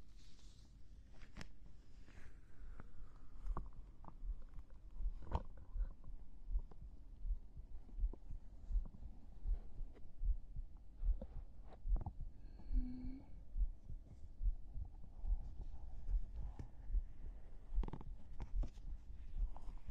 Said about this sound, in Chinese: 换个姿势呢，这样你就可以听到我的心跳声，心跳的声音呢会让你哦特别特别的安稳的。